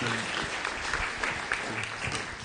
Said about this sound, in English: Let's give them a round of applause, everyone.